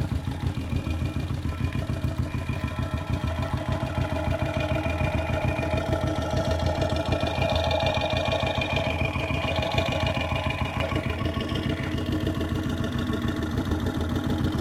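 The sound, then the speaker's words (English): An idling motorcycle engine picked up by a contact mic slid along the length of its exhaust pipe: a steady, rumbling pulse with dense low throbbing and a faint metallic hum, continuous throughout with no voices. “I'm going to try sliding the contact mic rather than taking it off and putting it back, sliding it along the length of the exhaust pipe.”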